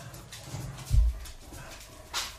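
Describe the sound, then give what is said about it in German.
A dog gives a single short, high-pitched bark near the end, fairly soft against a quiet background with a low thump just before it. No one speaks. “Ja, die hat die bellt voll hoch.”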